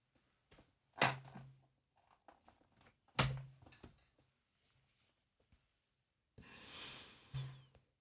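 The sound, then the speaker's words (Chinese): A metal chain being unlocked: two sharp, bright clanks, then a longer jangling rattle ending in another clink, with soft breathy sounds in the quiet gaps between. “锁链也解开吧，给我跪好说清楚。”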